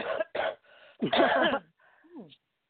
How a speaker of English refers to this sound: Ginger for you. For that cough, ginger and lemon. It's not a cough like that.